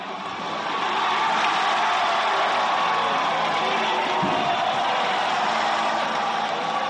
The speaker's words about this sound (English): On the final evening of the Games, a near sellout crowd of 4,150 cheers on U.S. weightlifter Shane Hammond as he closes the Games with one final successful clean and jerk, even though he had already won the weightlifting competition.